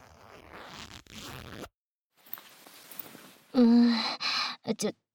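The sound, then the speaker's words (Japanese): A trouser zipper rasps down in a couple of short pulls, then a softer scratchy rustle, followed by a few loud breathy vocal sounds like gasps or sighs. “ほら、ズボンのチャック、下ろすぞ。”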